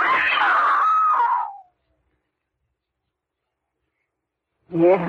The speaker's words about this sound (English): Yeah, I screamed. What good was that?